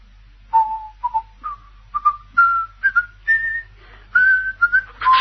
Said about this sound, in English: Heard him? Yes, he was whistling. Sky Boat Song. Catchy tune, isn't it?